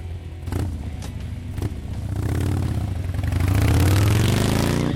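A Harley motorcycle engine idles with a deep, throaty rumble, then revs up, its pitch climbing and growing louder over a few seconds, with no talking.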